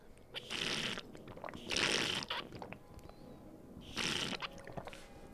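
Someone drinks water, with three separate gulping, slurping swallows spaced about a second or two apart. No one speaks over them.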